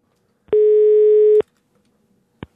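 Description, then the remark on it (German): A single steady telephone ringing tone lasting about a second, clear, as a call is placed to an acquaintance, followed by silence and then a sharp click as the line picks up. “Stefan Beuting wollte das wissen und hat dazu mit 3 Bekannten telefoniert.”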